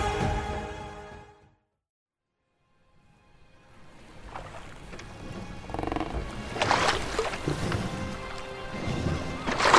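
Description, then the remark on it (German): Gentle waves wash and break against a stone quay wall and cliffs, a soft steady rush of water rising after a brief silence, with a few fuller splashes swelling through the middle and end. “Die Wellen rauschten und brachen sich sanft an der Kaimauer und den Klippen.”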